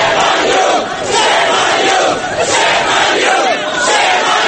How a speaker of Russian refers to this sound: Вслед им группа горничных нью-йоркских отелей скандировала слово «позор».